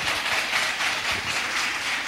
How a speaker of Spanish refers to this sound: Yo pediría un aplauso muy fuerte para mi gran amigo y gran locutor